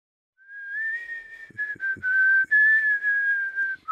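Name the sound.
person whistling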